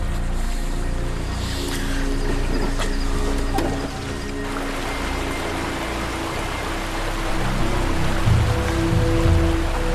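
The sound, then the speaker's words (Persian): Steady, loud rush of flowing river water, a dense continuous wash that swells slightly near the end, with low rumbling undertones and no voices. “نمیتونی که... از رودخونه عبور بدی.”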